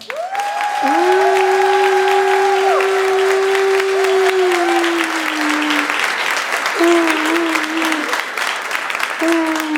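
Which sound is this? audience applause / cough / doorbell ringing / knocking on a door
audience applause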